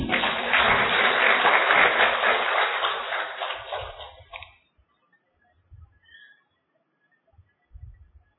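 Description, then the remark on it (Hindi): Participants at a spiritual retreat (bhatti) clap for themselves together in a dense, steady burst for about four seconds, then the applause fades out, leaving near silence broken by a few soft, low thumps. “तो अपने लिए ताली बजाओ।”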